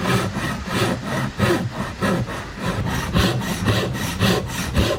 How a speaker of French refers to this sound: Ah, le doux bruit du bois qu'on taille, qu'on rabote, qu'on scie. On entend parfois aussi l'artisan qui souffle sur les copeaux, mais on ne l'entend jamais parler.